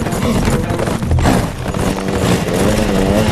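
Motorbike engines rev loudly and continuously as men on motorbikes chase riders on galloping horses through rocky terrain, blended with a dense rush of noise that may include galloping hooves, with no talking.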